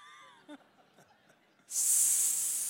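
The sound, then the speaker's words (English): A voice imitates a snake's hiss: a sudden, loud, sustained sibilant hiss that starts abruptly after a moment of quiet, faint murmuring and holds steady to the end. “And I think they probably said it like a snake would, sinner.”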